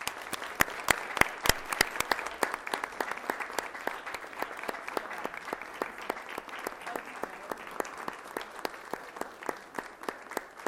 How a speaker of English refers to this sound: Let's give her a great round of applause.